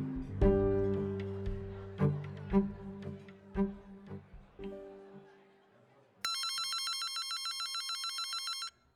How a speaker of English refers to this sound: Phones in Village Hall were ringing off the hook, not just from reporters in New York City, but from local couples hoping to get